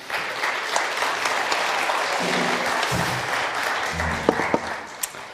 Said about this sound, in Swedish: Men först måste vi ge en liten applåd till vårt talkshowband som vi har här.